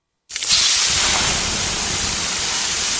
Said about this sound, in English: Hear that? The sound of water being poured on 800-degree rocks. If you were here in this sauna, you'd be so hot you wouldn't have the energy to move.